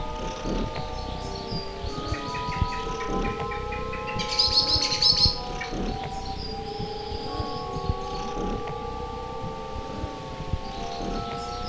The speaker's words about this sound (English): I was sitting at the other end of the couch, but move down to the bird, who jumps up to my chest and sits down. I pet the bird, who then starts to purr, like a cat.